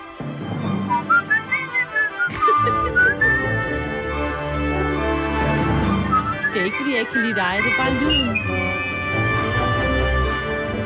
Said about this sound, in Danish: Det er ikke, fordi jeg ikke kan lide dig. Det er bare lyden. Der er et eller andet over at kunne fløjte, men det er, fordi du ikke er god til at fløjte